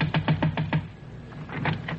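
Someone raps on Mr. Holden's door with a quick, even run of five sharp knocks, then after a short pause a few softer, looser taps follow. No voices.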